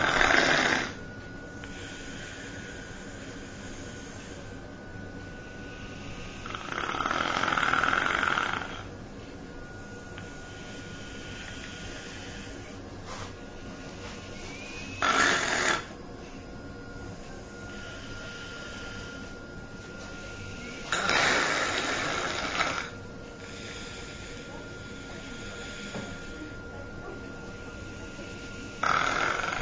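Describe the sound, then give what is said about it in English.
A dog with nasopharyngeal stenosis, which followed chronic regurgitation after a routine anaesthetic, snores with harsh, noisy breaths in a slow irregular rhythm, loud rasping bursts separated by quieter stretches, over a steady low background hum. “So this is nasopharyngeal stenosis.”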